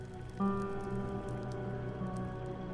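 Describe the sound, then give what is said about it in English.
A steady wash of crackling, hissing noise of a fire burning outside, blended with a softer rushing of more distant flowing water, under a faint sustained tonal hum. No one speaks. “There's just the sound of a fire burning outside, and the more distant sound of flowing water.”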